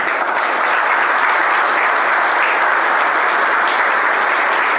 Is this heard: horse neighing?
no